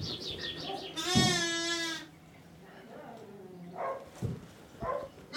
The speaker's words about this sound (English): Look at all these baby sheep.